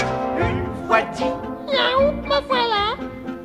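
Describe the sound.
A cat meows repeatedly, a run of loud, whiny, drawn-out cries with rising and falling pitch, the last two longest and most insistent.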